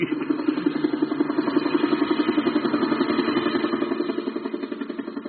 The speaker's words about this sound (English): Ah, I say, an army helicopter, wacko, Jolly D.